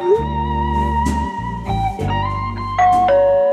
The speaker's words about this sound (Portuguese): 9 minutos antes do combinado, toca a campainha.